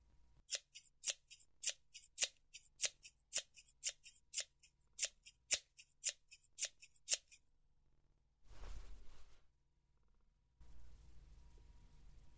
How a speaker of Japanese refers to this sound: 手は拘束したままだから、上はハサミで切っちゃうね。